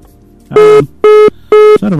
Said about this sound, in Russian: Нам звонят, 23:50:03, говорите вы в прямом эфире.